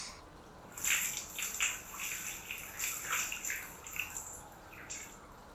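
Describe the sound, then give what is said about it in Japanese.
Water splashes and sloshes in an irregular run of bright, hissy bursts, like hands churning water in a tub, steady and moderately loud with no voices. “しぶき跳ねたらごめんなさいまし。”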